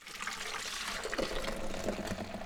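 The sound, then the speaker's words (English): A frothed, cooled milky mixture for homemade yogurt pours steadily into a yogurt maker to solidify, a continuous splashing gurgle whose tone rises slightly as the vessel fills, with no voices. “Once it hits the right temperature, she pours the milky mixture into a yogurt maker to solidify.”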